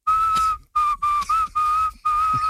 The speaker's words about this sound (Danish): Altså hun fløjter sådan her.